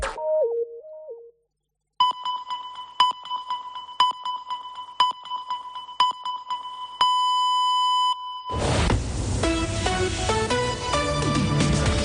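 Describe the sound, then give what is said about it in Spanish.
COPE Catalunya i Andorra's radio time signal for 2:15 pm on Tuesday, 21 January: a sequence of short, evenly spaced electronic beeps about a second apart, ending in a longer sustained tone, followed by music. A brief melodic jingle plays before the beeps. “Senyals horàries de 2:15 del migdia d'aquest dimarts, dia 21 de gener.”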